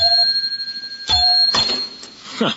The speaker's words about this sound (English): Some desk bell. Falls to pieces when you touch it.